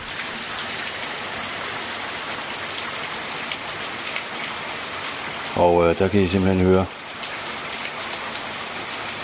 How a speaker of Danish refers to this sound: Og sådan har det altså regnet i snart 25 minutter. Så det er vel det, de kalder for skybrud. Der er godt nok smæk på.